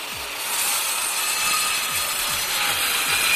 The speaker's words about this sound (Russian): Слесарь включает станок. Обе пилы начинают вращаться.